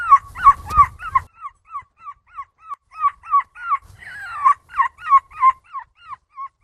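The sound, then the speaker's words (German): A nine-year-old boy imitates a seagull at the European seagull-imitation championship in Belgium: a long run of about twenty sharp, yelping cries in steady rhythm, rising and falling in pitch, with a louder, rougher burst partway through. “Man muss sagen, es geht um die Europameisterschaft in Belgien, wo es darum geht, Möwen zu imitieren.”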